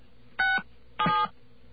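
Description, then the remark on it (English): Two short touch-tone keypad beeps from a telephone dialing star 67 sound in succession, each lasting about a quarter second with a brief pause between, clear over quiet line hiss, with no talking. “Okay, we're going to dial 9 to get out, and we'll dial star 67, as you say.”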